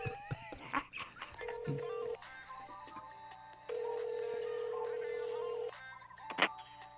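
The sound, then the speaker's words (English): A phone ringback tone sounds twice while calling a friend and waiting for him to pick up, a short ring then a longer one after a pause, steady and clear over faint background shuffling and a sharp click near the end. “I'm going to call my boy real quick, see if he picks up.”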